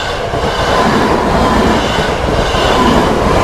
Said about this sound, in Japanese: お、踏切がある。 もうご察しの通り踏切がありますけど